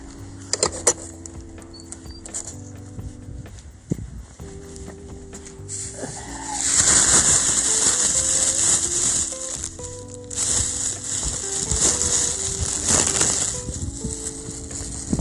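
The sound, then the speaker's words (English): A plastic bag crinkles and rustles loudly in sustained bursts for several seconds, bunched and scrunched in the hand while picking up the poop of Duke, a dog, during a walk, after a quieter stretch of scattered clicks and light outdoor noise. “Well, I gotta get the plastic bag and pick up his poop.”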